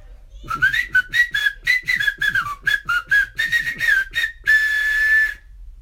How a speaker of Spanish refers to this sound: Y lo que hicieron a continuación fue el silbido del escuadrón de ayudadores.